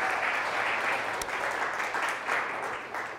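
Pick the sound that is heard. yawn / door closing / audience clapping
audience clapping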